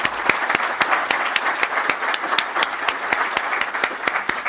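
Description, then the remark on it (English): Audience applause at an NJTPA event for the person who organized it: dense, steady clapping from many hands, fairly loud and sustained throughout with sharp individual claps standing out, no voices over it. “And I would like to ask for a round of applause”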